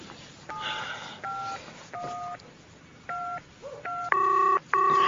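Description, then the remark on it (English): Telephone keypad dialing tones as someone on a walking trail calls an emergency hotline after a friend collapsed: about half a dozen short, irregularly spaced beeps over a faint hiss, the final two tones longer and noticeably louder. “Hello, emergency hotline?”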